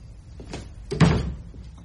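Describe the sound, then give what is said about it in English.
A door swings and closes with a solid thud, preceded by a softer rattle of the handle, fairly quiet, with no voices. “And keep the door shut.”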